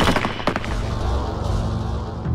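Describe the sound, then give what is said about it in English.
A ragged volley from a firing squad of eight rifles cracks out almost at once, several sharp reports bunched together, then a heavy low rumble rolls on and slowly fades. “The deafening explosion of the 8 rifles was the last thing Ahmed heard.”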